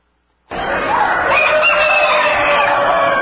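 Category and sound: animal, rooster crowing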